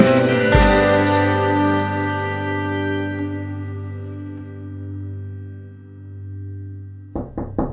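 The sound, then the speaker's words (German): A sustained ringing musical chord slowly fades out, then a quick series of sharp knocks on a door sounds at the very end. “Ja, dann schauen wir mal, wer heute an der Tür steht und zum Finale unseres Jubiläums-Podcasts begrüßen können.”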